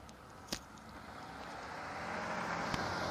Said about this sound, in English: More cars.